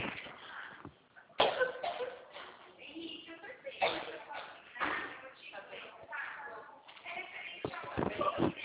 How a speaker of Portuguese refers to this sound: Eu tive uma crise de tosse, menina.